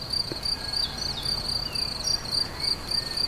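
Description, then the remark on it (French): Steady, shrill cricket chirping at dusk fills the air in continuous pulsing trills, moderately loud, with a soft outdoor ambience underneath and no voices, as daylight fades below Mont Valier. “Le chant des grillons et au loin les sonnailles des brebis”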